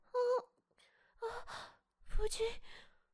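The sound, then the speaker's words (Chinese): Heavy panting breaths from a husband, loud, arriving in three voiced bursts, each a breathy, sighing exhale with short gaps of quiet between them. “夫君，你喘息的好厉害，可是这么重要的日子，你为何始终一言不发呢？”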